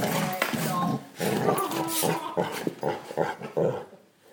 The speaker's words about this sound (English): It's him making the most noise. Place your bets. Dog! Oi! Stop it! Come here!